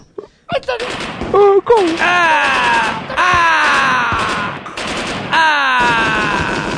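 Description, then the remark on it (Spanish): Gunfire in several long, loud, sustained volleys, with brief breaks between them and falling, wailing tones running over the shots. “Gasté como 20 pesos en balas.”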